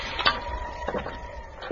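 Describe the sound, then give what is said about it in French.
A roof slate slides off a roof and smashes onto the tramway line below, giving a few brittle, clinking impacts spread over a couple of seconds, sharp and fairly quiet, with no voices. “Elle s'écrase en contrebas sur la ligne de tramway.”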